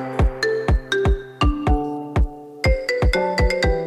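A bright, marimba-like ringtone plays a catchy pop melody in quick, bouncy plucked notes, loud, with no voices.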